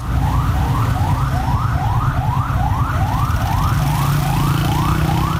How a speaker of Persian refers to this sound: این صدایی بود که امروز در محدوده مرکزی شهر تهران ساعت‌های متمادی شنیده می‌شد. صدای آژیر اتومبیل‌های آتش‌نشانی و آمبولانس‌هایی که از اولین ساعت روز تلاششان را برای اطفای حریق ساختمان پلاسکو، اولین ساختمان بلند مرتبه تهران، آغاز کردند.